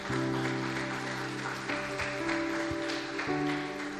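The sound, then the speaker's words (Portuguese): An audience claps steadily for about four seconds, a dense wash of applause blended with sustained keyboard chords that shift a few times underneath. No one speaks. “Dá uma salva de palmas se você crê.”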